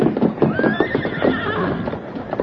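A horse whinnies with a high, wavering call while hooves clip-clop steadily beneath it, fairly loud, with no voices present.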